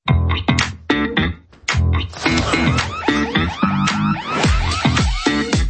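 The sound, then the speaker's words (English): A home security alarm, part of an indoor drone surveillance system, wails loudly and continuously, its harmonic tones sweeping up and down in quick, overlapping warbles with no pause for nearly six seconds. “The alarm's gone off, and so now the drone is going to fly around.”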